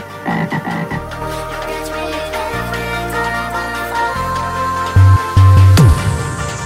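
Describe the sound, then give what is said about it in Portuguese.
A toad croaks steadily in deep, buzzy low pulses, fairly loud, with two stronger bursts near the end. No one speaks. “Sai sapo, sai sapo.”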